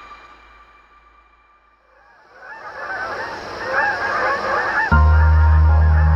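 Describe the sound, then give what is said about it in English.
A flock of geese honks in a dense chorus of overlapping calls that swells from near silence, then a loud, low sustained musical tone enters near the end. “On the one hand, they are a national treasure, a majestic bird that symbolizes the grace and wild beauty of this country. It is a sign of autumn to see them fly in formation, headed south over a forest of yellow, orange, and red, a graceful goodbye”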